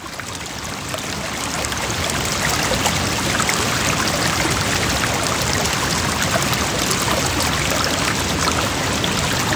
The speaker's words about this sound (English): then eventually come to a bridge which crosses a major, major stream. It feels like a river. Mm-hmm. This isn't New River. This is sort of like a tributary. Yeah. It was an awesome bridge because like the sounds of the water were just stunning.